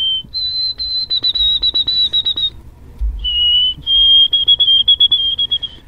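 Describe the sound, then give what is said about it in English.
A person on a radio show whistles an imitation of a white-throated sparrow: clear, high, pure tones that open with sustained notes and break into quick repeated triplet-like pulses, with a pitch drop midway. “I think there's a white-throated sparrow in the room.”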